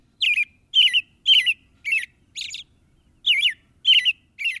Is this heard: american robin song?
yes